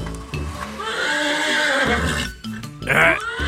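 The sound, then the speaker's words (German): A horse whinny played as a car's engine-start sound by a hacked onboard computer when the start button is pressed: a loud, long wavering neigh lasting about two seconds, followed after a brief pause by a shorter, higher second whinny. “mein Auto wird wie ein Pferd, was ist das denn?”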